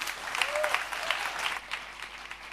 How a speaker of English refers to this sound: Great applause from our group, Dystopic Garden.